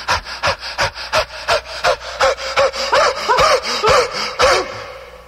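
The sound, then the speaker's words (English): A voice mimics a pumpkin breathing hard: heavy panting, rapid rhythmic breaths about twice a second, loud, each a sharp voiced huff in a steady, urgent series. “The pumpkin is breathing hard.”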